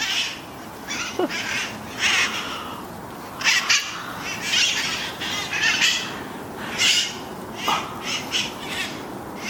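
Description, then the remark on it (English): A flock of feral parrots in the Telegraph Hill neighborhood of San Francisco squawks continuously, harsh raspy calls overlapping in irregular bursts, loud over a steady outdoor background, with no one talking. “That's the Parrots of Telegraph Hill.”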